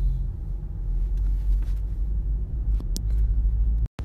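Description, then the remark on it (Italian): A steady, deep road rumble from inside a car moving slowly behind a truck going about 40 an hour, on the way to work, the engine droning evenly with a few faint ticks and bumps, and no one speaking. “Se mi sentite sconcentrato è perché forse arriverò in ritardo al lavoro, e la cosa mi dà fastidio è che davanti a un camion che sta andando via 40 all'ora, pensavo girasse dove gira di solito il camion, invece va dritto”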